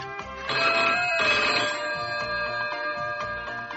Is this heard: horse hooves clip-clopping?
no